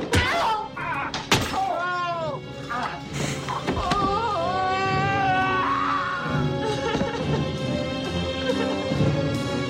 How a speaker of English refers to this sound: That was the sound of Dr. Hayward knocking Ben Horn into the fireplace where he smashes his head and maybe dies.